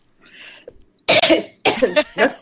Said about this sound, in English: Are you still having your cough? You've got a bit of a cough for a few days now already.